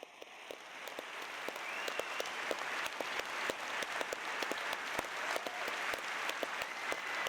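An audience bursts into applause, a dense, steady wash of many hands clapping with sharp individual claps standing out, sustained at an even level throughout with no talking.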